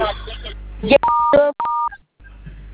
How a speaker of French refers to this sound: Vous composez sur son téléphone le code dièse deux fois.